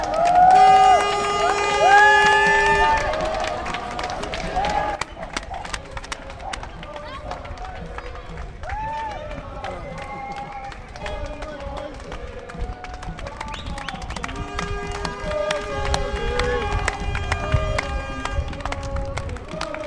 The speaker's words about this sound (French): On est sur la place Howard à Saint-Josse et voilà la marche qui est en train d'arriver.